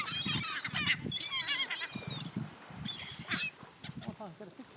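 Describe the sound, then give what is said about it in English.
A flock of more than 50 birds screeching and honking loudly and continuously, many overlapping harsh calls, with goose-like cries rising and falling throughout. “They're all screeching.”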